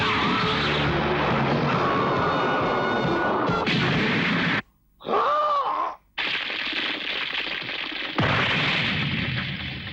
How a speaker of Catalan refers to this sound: El sergent topa contra la paret i cau estabornit a terra.